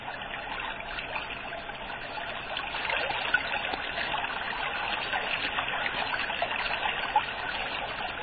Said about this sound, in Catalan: Entremig d'aquestes colossals masses de roques calcàries s'escorre sorollós el Noguera Pallaresa.